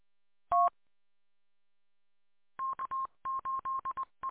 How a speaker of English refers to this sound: And like you said, you dial into the number for the FBI repeater, and then you hit star 99, you do your talking, then you hit pound to hang up, and you can still monitor.